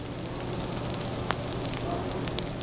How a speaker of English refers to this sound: A 25-ounce grass-fed bone-in filet sizzles on the grill at Anton's taproom.